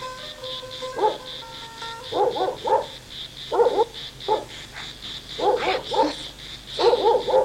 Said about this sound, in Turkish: Köpek bağlı mı?